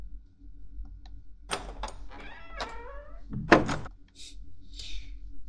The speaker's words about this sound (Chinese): 你好，我有备用钥匙的。你不开门的话，我就自己开了。